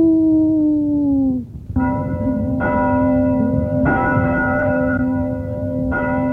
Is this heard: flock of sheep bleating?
no